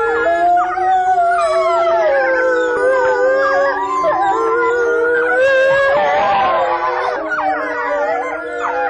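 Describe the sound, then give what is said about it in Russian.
A wolf pack of four adults and four pups howls in chorus at the Novosibirsk zoo after the zoo has closed, several long wavering voices overlapping continuously, with higher pup-like yips and squeals rising in the middle; loud, and no talking. “Конкретная пара, которая была записана, 4 взрослых животных и 4 детеныша в новосибирском зоопарке, они практически всегда выли после закрытия зоопарка”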